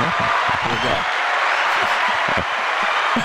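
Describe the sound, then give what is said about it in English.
A crowd of folks at Santoris applauds the stat of the day in a steady, dense wash of clapping that holds at an even loudness throughout, with voices murmuring underneath. “drawing big crowd applause here from the folks at Santoris.”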